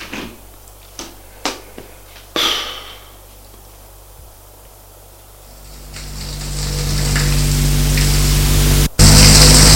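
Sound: shower water running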